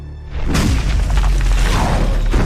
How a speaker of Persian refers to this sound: زلزله.